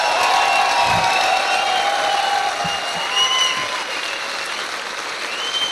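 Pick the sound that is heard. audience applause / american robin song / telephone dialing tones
audience applause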